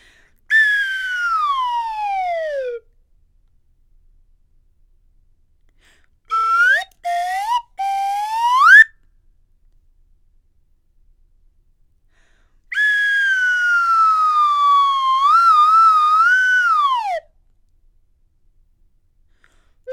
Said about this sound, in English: Today we're going to start out with a slide whistle warm-up. So get out your imaginary slide whistles and repeat after me.